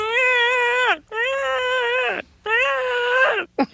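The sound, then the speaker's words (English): A voice in the animated show The Critic imitates a whale's love call: three long, wavering, high-pitched moaning wails, each sliding downward at the end, loud and with no other sounds around them. “You know the sound whales make when they're in love?”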